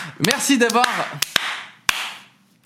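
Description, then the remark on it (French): A burst of applause, a wash of clapping with a few sharper claps, over a voice at the start, then tapering off and fading within a couple of seconds. “Vous pouvez vous applaudir, bien évidemment.”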